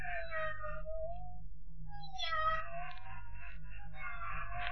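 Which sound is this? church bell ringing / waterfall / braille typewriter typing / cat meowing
cat meowing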